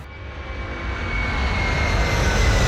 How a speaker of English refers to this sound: Oh, it's a propeller job. It's very nice. Full propeller job, the workhorse there, carrier.